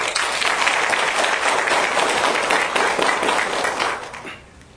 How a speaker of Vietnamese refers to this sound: Nên là để có cái niềm vui đó thì chúng tôi xin là chúng ta hãy tự mình tán dương cho nhau một đàn pháo tay thật lớn.